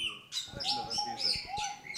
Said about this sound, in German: Und im Vogelhaus, wo die Geräuschkulisse mitunter sehr intensiv sein kann, ist von der Böllerei draußen auch nicht so viel zu hören.